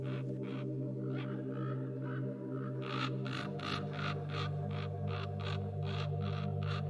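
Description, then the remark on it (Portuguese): Ravens croak in a long, steady series of harsh calls from some distance in the Serra da Estrela Natural Park, Portugal, growing busier midway, over a constant low droning hum with no talking. “Ficamos ali com os corvos ao longe durante largos minutos.”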